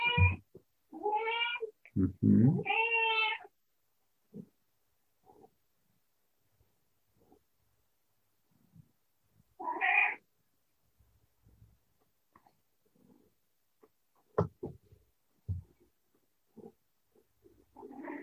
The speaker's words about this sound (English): And there's Annie supporting the process with her beautiful voice, our cat.